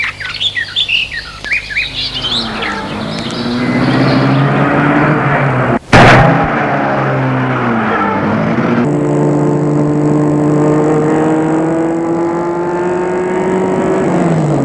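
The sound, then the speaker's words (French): Birds chirp briefly before a woman starts a car on a road; the engine turns over and revs up, and after a sharp thump it settles into a steady droning hum as the car drives along. “C'est ce qu'elle fait et elle met la voiture en route.”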